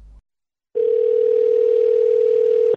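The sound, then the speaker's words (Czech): A telephone ringing tone on an outgoing call to the board chairman of a school in Chicago: one loud, steady electronic tone held for about two seconds over faint line hiss, after a brief muffled click and short silence. “O radu ove škole govorit će Nenad Đorđević, predsjednik odbora poverenika Akademije Sveti Sava, koga ćemo pozvati telefonom”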